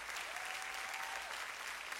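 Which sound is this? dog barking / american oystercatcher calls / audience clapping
audience clapping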